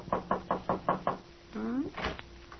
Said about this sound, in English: And right now, there's a knock on the back door, and it's Shuffle who pokes his head in. Listen.